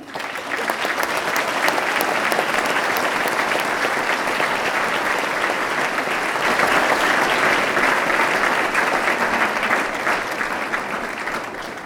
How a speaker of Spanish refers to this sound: Y en honor a los compañeros caídos, pido un fuerte aplauso, compañeros.